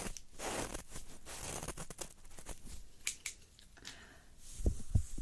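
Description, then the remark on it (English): Scissors snip in a loose, irregular series of crisp metallic cuts, fairly quiet, with soft rustling between them and a couple of duller knocks near the end. “If you use very long one scissors, and I use fine old ones, like a year.”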